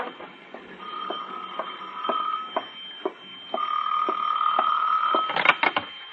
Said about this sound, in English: It was 6:05 when the phone rang again.